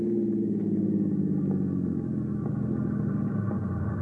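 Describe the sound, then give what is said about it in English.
A car engine idles and rumbles steadily, from a car parked on train tracks at a crossing, a low, continuous drone with slight rhythmic pulsing and no voices, holding at an even loudness throughout. “You park the car on the tracks, stall it with the keys left in the ignition, ease George in behind the wheel, and then hurry off into the darkness.”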